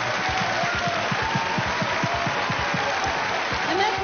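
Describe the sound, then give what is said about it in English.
Steady applause from an audience, a dense run of rapid handclaps at a fairly loud, even level throughout, with no voices standing out. “Les applaudis, bien sûr.”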